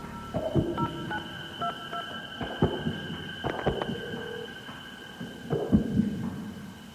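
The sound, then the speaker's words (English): A telephone rings with a sustained electronic tone alongside scattered dull thumps and clatter, with no one speaking. “Telephone's ringing.”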